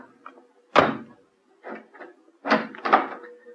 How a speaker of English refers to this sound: Well, come inside then. Excuse me if I bolt the door again.